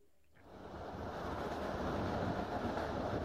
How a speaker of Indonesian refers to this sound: Aku duduk di bangku paling belakang, sebelah kiri gerbong ekonomi. Di kereta yang membawaku dari arah barat ke timur.